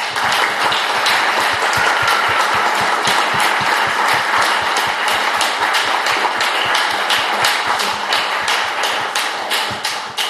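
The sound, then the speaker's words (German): Sustained audience applause welcoming pastor Klaus Eickhoff fills the whole stretch, a dense, loud wash of many hands clapping, with sharper individual claps punctuating it in a steady, slightly rhythmic patter. No one speaks. “Und ich darf uns alle bitten, dass wir Klaus Eickhoff noch einmal mit einem herzlichen Applaus begrüßen.”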